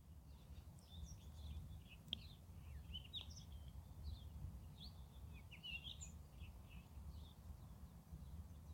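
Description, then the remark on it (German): Birds sing and chirp outdoors in nature in Cape Town, South Africa, scattered bright calls overlapping above a steady low rumble of background noise, with no one speaking. “Dann darfst du mal auch diesen wundervollen Vögeln lauschen.”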